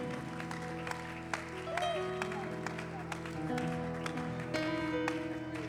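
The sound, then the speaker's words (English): A church audience claps and cheers in praise to God during a bilingual English-Spanish service, scattered sharp hand claps over a steady wash of raised voices and sustained musical tones, fairly loud and continuous throughout. “Why don't you give God a hand clap of praise?”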